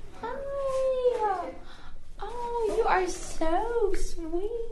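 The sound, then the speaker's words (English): A puppy named Copper whines and yelps at Metro Animal Shelter in Tuscaloosa, Alabama, while meeting someone who came to adopt a puppy. Several drawn-out, wavering cries with rising and falling pitch, fairly loud, with short pauses between bursts. “And that's Copper, the puppy she's meeting.”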